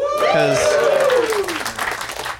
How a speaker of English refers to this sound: Yeah, I was wondering. I was like, is this going to get a round of applause?